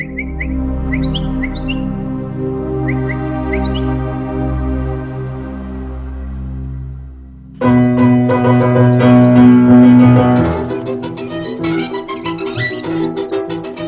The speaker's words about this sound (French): Le langage d'appel des oiseaux et leurs chants.